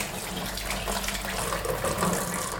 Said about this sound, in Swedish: Nu har jag så mycket geggar på fingrarna så nu blir det inte handduken som används, utan nu sköljer jag dem helt enkelt.